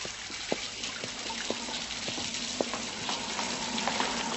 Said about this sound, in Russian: Кажется, он открыл воду. Зачем?